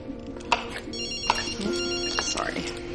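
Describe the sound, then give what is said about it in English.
A cell phone ringtone plays a bright, repeating electronic melody, steady and fairly loud, with sharp clicks and faint kitchen clatter underneath as people cook a Thai stir fry; someone goes over to the phone and picks it up. “Maggie goes over to her cell phone and picks it up.”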